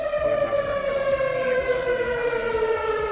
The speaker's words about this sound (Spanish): Fue todo un simulacro que se puso en marcha para poner a prueba los sistemas de alerta por riesgo químico. El objetivo esta vez era evaluar el funcionamiento de las sirenas dentro del plan de emergencia de esta localidad.